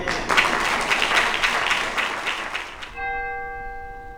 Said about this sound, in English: The memorial concluded with bells tolling to remember the victims, followed by a litany.